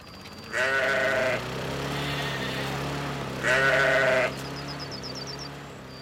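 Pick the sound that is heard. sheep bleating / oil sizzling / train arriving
sheep bleating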